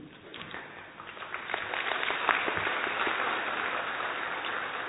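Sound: audience clapping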